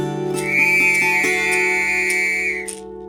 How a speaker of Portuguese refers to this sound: Eu resolvi então pôr uma melodia naquele verso feito assim, metrificado, com um apito.